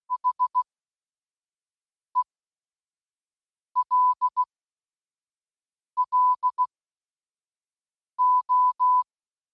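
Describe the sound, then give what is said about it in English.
Morse code beeps spelling "hello": a steady mid-pitched tone in five groups of short and long pulses, starting with four quick dots, played alone with no voices. “Given that the message was still a continuous repetition of 2 beats per second, we decided to use a similar frequency using a Morse code translation of hello.”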